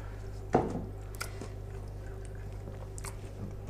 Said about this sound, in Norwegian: Du skal få lov til å spise biten din.